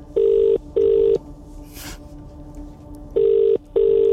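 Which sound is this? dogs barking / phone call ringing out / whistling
phone call ringing out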